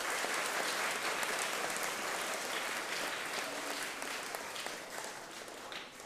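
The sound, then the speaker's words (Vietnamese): A big, sustained round of applause from a crowd at a Buddhist program for preschool children and children on 9 June 2018, praising the care shown to them, dense clapping staying loud throughout and easing only slightly toward the end. “Cho một tràng vỗ tay thật là lớn để tán dương sự thương tưởng này.”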